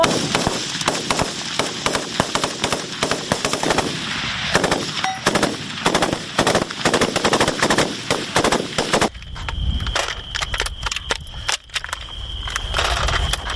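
Loud, rapid video game gunfire rattles in dense automatic bursts for about nine seconds, then gives way to sparser, scattered shots over a steady high electronic hum.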